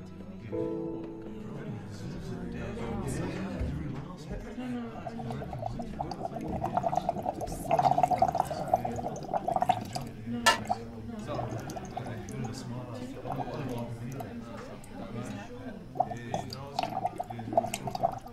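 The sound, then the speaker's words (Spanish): Water pours steadily into a container for several seconds while sodium chloride solutions are being prepared, a continuous splashing trickle with occasional drips and gurgles that swell and ease throughout. “Bien, ya preparamos las soluciones de cloruro de sodio.”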